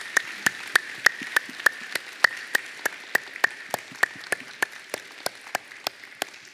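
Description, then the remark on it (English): A standing church audience applauds together to give glory to God, a steady wash of many hands clapping with sharper individual claps standing out in a fairly even rhythm, moderately loud and continuous with no voices. “May you please stand and give glory to God with our applause.”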